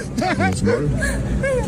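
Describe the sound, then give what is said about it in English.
A dog named MacGyver lets out a quick string of high, yappy barks and yips, about five in under two seconds, fairly loud over a faint background murmur. “she claims to be making six figures a month acting like a dog. MacGyver's offended.”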